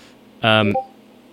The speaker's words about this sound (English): I don't know if you just heard a notification from a certain app come from my computer. I'm imagining you did, and I think that's pretty funny.